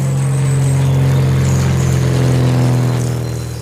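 Loud, steady aircraft engine drone at an aviation exhibition, with a deep, humming low pitch and a whirring edge, running continuously without speech and easing off slightly at the very end.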